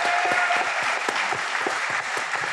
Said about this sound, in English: They helped make this event possible tonight. So round of applause. Thank you for Advisor Engine. Thank you, Advisor Engine.